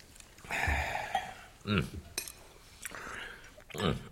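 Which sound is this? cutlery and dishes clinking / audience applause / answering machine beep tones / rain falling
cutlery and dishes clinking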